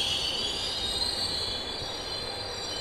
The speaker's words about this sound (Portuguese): O trem apareceu ao longe e reduziu a velocidade a se aproximar da estação.